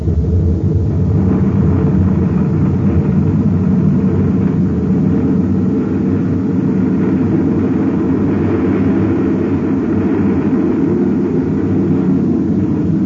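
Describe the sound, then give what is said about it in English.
A steady, powerful roar of spaceship rocket engines firing to get the ship away from a uranium bombardment, loud, with a deep rumbling low end that holds constant throughout without pauses or voices. “Now to fire rockets and get away from this uranium bombardment.”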